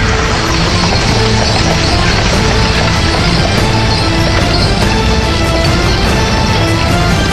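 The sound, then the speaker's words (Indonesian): Steady clip-clopping of horse hooves over a dense, rumbling clatter as a horse-drawn carriage arrives at its destination, continuous and fairly loud throughout, with no voices. “Setelah beberapa kali belok di tikungan, yang kanan kirinya bertembok tinggi, akhirnya kereta kuda itu pun sampai di tempat yang dituju.”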